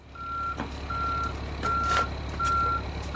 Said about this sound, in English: A semi-truck filled with juvenile salmon from the Coleman National Fish Hatchery is backing up to a pipe. Thousands of fish are then shot through the pipe into three large net pens in the Sacramento River in Rio Vista.